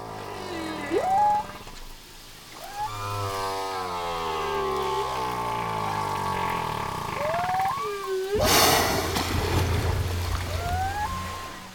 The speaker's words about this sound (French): Et puis on va se quitter en écoutant encore une fois le chant des baleines parce qu'on ne s'en lâche jamais.